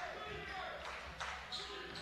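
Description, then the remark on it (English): A basketball being dribbled toward the left side of the court in the third quarter of a game between Fayetteville and Mount Holmes, a few muffled bounces under a steady wash of gym crowd noise and a commentator's voice. “Dribbles toward the left side.”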